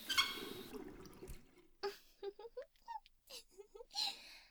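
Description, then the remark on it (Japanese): A shower's steady hiss of running water fills the first second, then cuts off, leaving faint drips under a soft voice speaking in short breathy phrases. “まあ、とりあえずシャワーはもういいにしよっか。”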